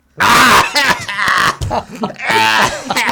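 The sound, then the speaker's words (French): A man coughs several times in a row, loud and harsh, with rough voiced hacking bursts and brief pauses between them, as in the French Sécu (social security) ad campaign against antibiotics. “Le mec qui tousse, là.”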